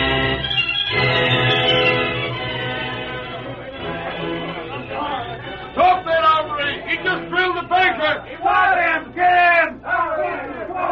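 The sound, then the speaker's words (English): A large crowd streaming down the main street of Lobo City shouts and yells together in a dense, continuous roar, with individual excited voices bursting out above the clamor, loud throughout. “A shouting, yelling crowd streamed down the main street of Lobo City, and like a small and frightened fox fleeing from a pack of hounds, a slim figure ran ahead of it, making desperately for the cattle train slowly pulling away from the public corral”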